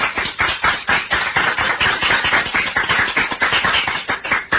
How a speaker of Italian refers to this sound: Applauso.